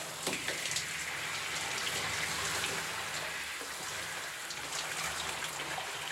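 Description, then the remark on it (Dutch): A shower runs steadily at home, a dense hiss of falling water spattering on a hard surface, continuous with no voices. “Even later staat ze thuis onder de douche.”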